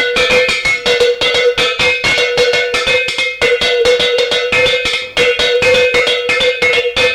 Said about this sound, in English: The iron bell will come in with a different rhythm on top of that.